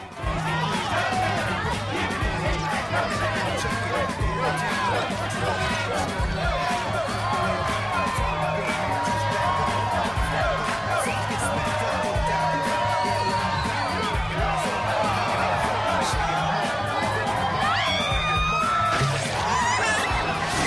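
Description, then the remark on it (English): A dense crowd cheers and whoops continuously as a pregnant woman breakdances, spinning face down on her bump, with excited shouts and screams rising over a steady roar, plus a low rhythmic beat pulsing underneath throughout. “She spins face down on her bump while the crowd cheer.”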